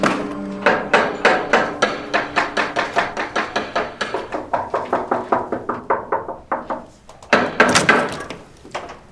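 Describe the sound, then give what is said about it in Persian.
Rapid, steady knocking on a door, dozens of sharp raps in a long run that slows slightly, then a short burst of heavier, louder pounding. No voices. “چه در رو باز نمی‌کنی؟ چرا تلفن جواب نمیدی؟”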